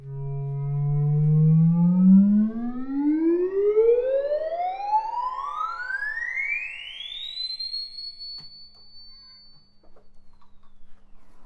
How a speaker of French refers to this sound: Et donc, je vais faire donc un glissando de la note la plus grave du clavier jusqu'à la note la plus aiguë. Alors, là en fait, ce qu'on entend, c'est le petit commutateur qui permet de passer du ruban au clavier.